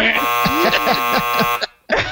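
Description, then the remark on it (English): A person vocally mimics a harsh game-show wrong-answer buzzer as a quiz buzzer: a loud, nasal, sustained buzzing drone with a pulsing wobble, cut off abruptly before a brief restart. “Yeah, he just sounds like the wrong answer sound.”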